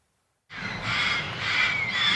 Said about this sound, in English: You can hear the place before you ever see it. In a lonely corner of Los Angeles is a home for dozens of parrots, many of them neglected, abandoned, abused.